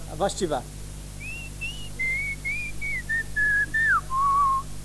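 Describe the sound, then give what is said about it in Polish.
A short vocal burst opens, then a person whistles the Commodore version of the Warhawk video game music, with steady sustained notes stepping down in pitch and a lower, longer final note. “Wersja na Commodora się zaczynała inaczej niż wersja na Atari i była między tak...”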